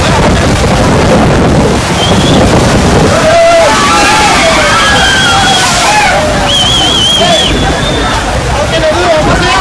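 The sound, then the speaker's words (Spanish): Rough sea surges and crashes against safety barriers at the seafront promenade of Máncora in a loud, continuous roar of churning water, with indistinct voices and faint shouts mixed into the background. “El mar completamente embravecido.”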